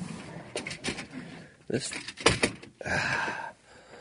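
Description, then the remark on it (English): Clattering bumps and a scraping slide as a chair is swapped for another and adjusted to lock in, with several sharp knocks and a sustained grinding rasp near the end, and faint talk underneath. “We have chair issues here, ladies and gentlemen. I don't know why. Let's see if this locks in.”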